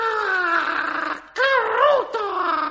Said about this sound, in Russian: Это проснулся попугай Коруда. А так как он был попугай, то у него не было ни своих мыслей, ни своей песенки. Он только умел подражать другим.